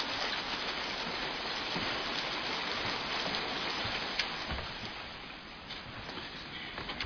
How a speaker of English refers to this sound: Get in here out of the rain.